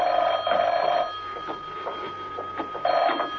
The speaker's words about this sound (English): When he entered his apartment, the phone was ringing.